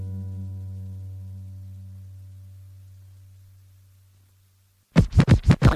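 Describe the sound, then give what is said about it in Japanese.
A low, droning bass tone fades away, then a short burst of turntable scratching snaps in: about five quick, loud back-and-forth swipes of a vinyl record, with no voices. “毎日レコードを前後させて喜んでます”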